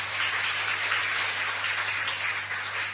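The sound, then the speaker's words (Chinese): A crowd applauds steadily to encourage the staff of the ACM organisation, a dense wash of overlapping claps that holds at an even level for the whole three seconds, with a low electrical hum beneath and no voices. “好，我哋再一次呢用掌声去鼓励我哋 ACM 嘅同工下。”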